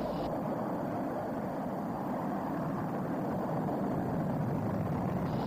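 The rocket engines of Apollo 11 roar at liftoff on July 16, 1969, in a continuous, deep, rumbling blast that holds steady throughout, heavy in the low end with no voices over it.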